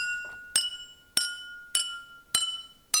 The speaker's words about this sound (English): Try tapping the glasses with the spoon and hear the different musical notes. Play a tune. Which glass gives the lowest tone? So here we go, starting with the empty one, and then in sequence, the ones that have 1, 2, 3, 4, and 5 scoops of water.